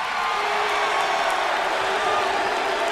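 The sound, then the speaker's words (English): A large crowd at a wrestling event boos in a steady, sustained roar, with scattered shouts and whoops mixed into the dense wall of noise throughout. “And neither can the ones that are booing.”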